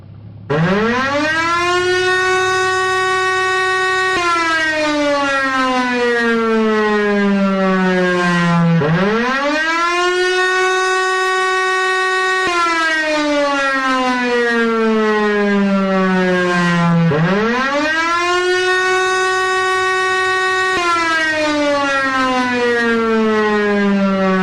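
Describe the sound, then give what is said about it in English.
A loud air raid siren wails alone in an animation of a neon crossing signal, its tone sweeping up sharply and then sliding slowly back down in long repeating cycles, about three full rises and falls. “According to people who remember the crossing, the air raid siren didn't go up and down in pitch like that.”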